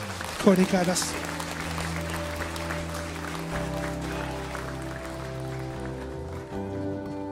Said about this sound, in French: Église, pour les personnes qui ont levé la main et qui ont fait cette prière, est-ce qu'on peut applaudir Jésus ?